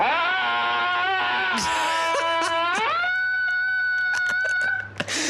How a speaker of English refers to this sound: The boys listen to people from around the world screaming at pictures to relieve stress. Hang on, so this is examples of people screaming at pictures of landscape. That's correct, yeah.